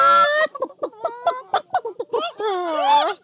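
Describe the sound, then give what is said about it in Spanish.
A voice imitates hens in a henhouse clucking nervously in protest: a quick, choppy run of clucks and squawks rising and falling in pitch, ending in a drawn-out warbling cackle, loud. “La reacción general fue un gran cloquerío nervioso de protesta.”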